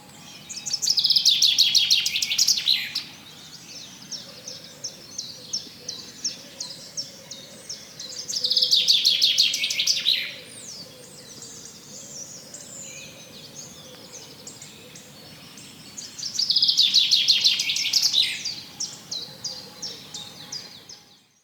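A bird sings three bright, rapid bursts of trilling song, each lasting a couple of seconds and spaced about seven seconds apart, with softer twittering in between and no voices.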